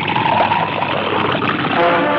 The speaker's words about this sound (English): Listen. You just add water like this.